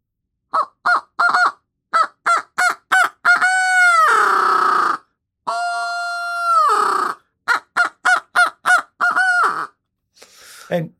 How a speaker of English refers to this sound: And this is just a duck call. I'm choking it off a little and doing a hoot owl cadence in it. So I'll give you a sound file of that.